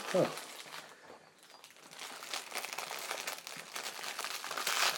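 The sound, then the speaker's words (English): Continuous crinkling of the plastic packaging of fire cakes, rustling and crackling unevenly for several seconds, with a sharper crinkle at the start and the handling growing busier toward the end. “The rustling of the fire cakes.”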